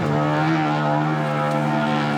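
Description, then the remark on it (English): An elephant's low rumble, heard at the end of a song, a deep, steady drone rich in buzzing harmonics, held loudly and unbroken for the whole couple of seconds with no voices over it. “Another one of my favourites, this is an elephant rumble.”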